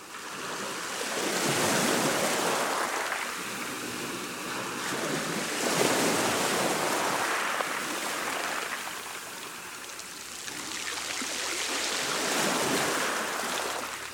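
Sea waves wash onto the shore in broad, rolling surges, each swelling and receding every few seconds, with a steady hiss of foam and wind between them and no voices.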